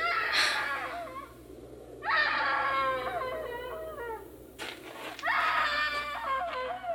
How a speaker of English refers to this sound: Hey, screaming woman. Why didn't you scream before? Why didn't you scream so Daddy could hear you?